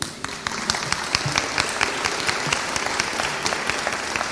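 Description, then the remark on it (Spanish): An audience applauds for Hugo, one of the grandsons, many hands clapping in a dense, continuous patter with a few sharper claps standing out, sustained at an even level throughout. “Un aplauso para Hugo.”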